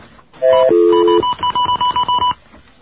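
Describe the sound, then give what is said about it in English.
Telephone touch-tone dialing of the information operator: two sustained dual-pitch tones followed by a quick, even run of about seven short keypad beeps, loud and clear with no one talking. “We will dial the information operator.”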